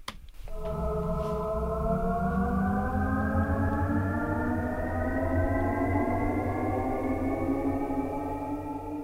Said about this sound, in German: Und der Sound würde ab 2019 in alle elektrifizierten BMW-Fahrzeuge appliziert. Und das ist der Sound, was man im Außenbereich hören würde, wenn das Auto von einer Standsituation beschleunigt.